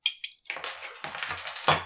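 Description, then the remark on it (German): A bottle of non-carbonated iced tea, bought in Dresden, is opened: a few sharp clicks, then a crackly, grinding twist of the cap that rises in bursts, with no fizz and no voices. “Ich tue es mal öffnen.”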